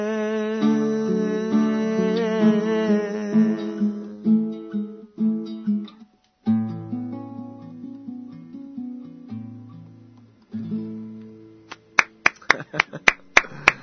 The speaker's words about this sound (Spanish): Suenan pocos aplausos porque solamente estoy yo.